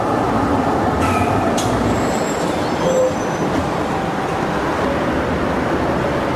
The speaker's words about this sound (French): Non, ça reste un de mes carrefours préférés au monde. Hein. Peut-être à cause des tramways.